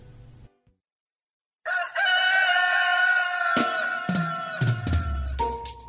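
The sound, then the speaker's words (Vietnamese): A rooster lets out one long, loud crow, its strained, ringing call held for several seconds before breaking off, with a few sharp clucks near the end. “Từ lâu, chú gà trống đã được khen ngợi với năm đức tính Văn, Vũ, Dũng, Nhân, Tín.”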